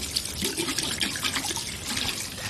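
Hands being washed under a running sink tap, a steady, moderately loud hiss of flowing water with light splashing throughout and no one speaking.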